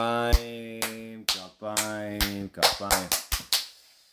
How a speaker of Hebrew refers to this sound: אז תעשו כפיים.